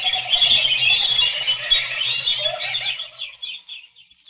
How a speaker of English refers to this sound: The birds.